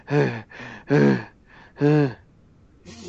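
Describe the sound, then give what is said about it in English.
A voice imitates the heavy, out-of-breath panting of a fat man walking down a hallway: four or five loud, voiced gasping breaths in a steady rhythm, each roughly half a second long, with no other talking. “Breathing like, heavily. I can just see that. Right, like breathing heavily, just being like, ah.”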